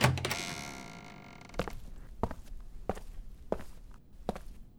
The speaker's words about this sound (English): Come in, said a voice. Jane Ross opened the door and went into a small room.